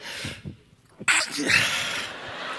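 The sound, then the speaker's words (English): After a brief hush, a person lets out one sudden, loud sneeze, followed by a stretch of breathy, noisy sound that trails off slowly. “And the sneeze came.”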